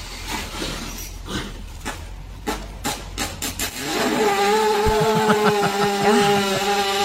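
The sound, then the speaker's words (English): A horse named Katie breaking wind: a run of short, sputtering pops gives way to a long, loud, buzzing rasp with a slightly wavering pitch, oddly like a small engine revving. “Here's Katie farting again.”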